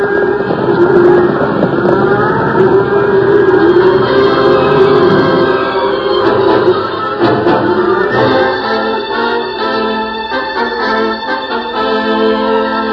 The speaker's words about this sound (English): Cattle ran for 10 miles before the last of the thunder rumbled away in the distance.